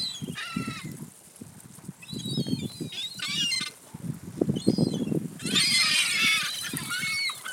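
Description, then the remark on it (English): Several crows, including Cornelius and Wash, the crows at school, caw harshly and repeatedly, their rough calls overlapping in a noisy chorus that builds toward the end, fairly loud with no one talking. “Cornelius and Wash, the crows at school. Here they come.”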